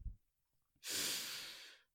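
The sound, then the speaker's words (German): A single deep, audible breath, fairly loud, a long airy rush lasting about a second after a brief quiet moment, with no talking; the breath is taken as part of a closing affirmation exercise. “Ja, lass uns noch eine Abschlussaffirmation und einmal atmen.”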